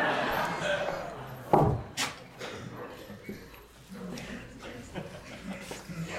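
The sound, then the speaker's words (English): A door swings shut with one solid thud, sharp at the start with a brief low rumble after, set against a dim hubbub and faint murmuring voices. “I'm going to shut the door, and then we're going to take questions.”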